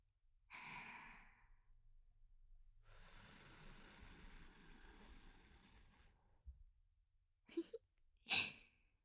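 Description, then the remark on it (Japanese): Two long breathy exhalations blown onto the microphone to send a breeze to the listener, a short airy puff followed by a longer, steadier whoosh of air, then a pause and two brief sharp breath bursts at the end. “吐息という形で風を届けるのも手段の一つです。”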